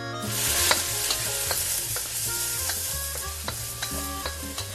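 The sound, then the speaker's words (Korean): Butter, minced garlic and pre-fried fatty pieces of meat sizzle steadily in a frying pan still holding fat, meat juices and sauce, stir-fried to make garlic rice: a continuous crackling hiss broken by repeated clicks of a utensil stirring against the pan, with a low hum underneath. “기름기와 육즙과 소스 맛이 남아있는 프라이팬에 버터를 두르고 미리 볶아둔 기름기 있는 부분과 점인 마늘을 넣어 한 번 더 볶아준다.”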